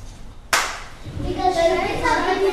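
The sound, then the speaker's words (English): A single sharp, loud hand clap from a teacher rings out after a brief quiet in an Achievement First classroom, and a rising wave of voices follows immediately as all 30 of her students turn to a partner and start chattering together. “claps her hands, all 30 of her students turn simultaneously to a partner and start chattering away.”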